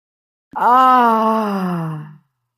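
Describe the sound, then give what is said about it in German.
A single voiced exhale on an open "ah" vowel during a breathing exercise, a steady moaning tone lasting under two seconds that drifts slightly lower in pitch and fades out at the end, with no talking. “Wir machen nur mal, wir atmen ein und atmen auf ein A aus.”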